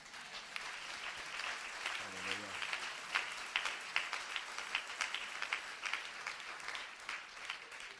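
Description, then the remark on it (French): An audience breaks into sustained applause acclaiming a son who carries on his father's ministry, dense overlapping claps filling the whole stretch at a steady, fairly loud level, with a brief voice rising through the clapping partway in. “Et quand je vois ce travail qui a été fait et que vous voyez que le fils excelle autant que son père, ça mérite une main d'acclamation.”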